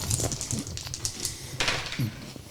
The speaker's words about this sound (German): Ich habe eine 6 gewürfelt.